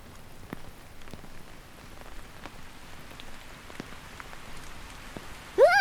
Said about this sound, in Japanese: やばい、雨強くなってきた。いきなり強くなりすぎだ。二人ともびちょびちょ。これじゃ傘あってもなくても変わらないね。